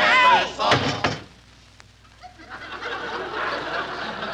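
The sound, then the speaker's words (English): A crate lid slams shut with two sharp, loud bangs, right after a brief squawking chirp, followed by a quiet lull and a low, rustling background; the crate is to be put on a train. “Mary, you slammed it so hard you might have hurt him.”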